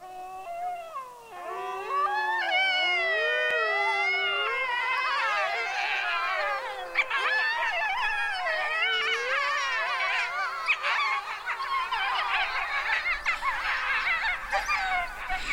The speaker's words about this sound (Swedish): Kalla kårar på ryggen, så känner jag. Finns det ingen ljud som framkallar sån intensiv känsla som just det här. Vargar som ylar.